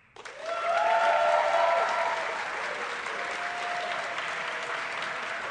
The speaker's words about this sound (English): By round of applause, we're going to give you the two choices. Applaud for the one you think is most worthy of a Sacred Cow discussion on Film Spotting. The first one is Unforgiven.